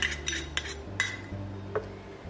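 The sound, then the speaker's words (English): A spoon stirs separated tahini paste in a jar, mixing the separated oil back into the solids, clinking against the sides about five times at an uneven pace, over a steady low hum, with no one talking. “Now my tahini paste is a little bit separated, which means the oil has separated from the solids. So I'm just going to give that a bit of a stir first.”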